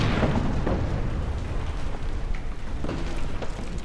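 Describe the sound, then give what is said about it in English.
A fireball's loud, booming explosion erupts at once and rolls on as a dense, roaring rumble with crackling bursts, filling the whole stretch without fading, heavy in the low end and with no voices. “and then it just passes between 2 ribs, travels another 10 feet, and the Minotaur glances back, and then there's the explosion.”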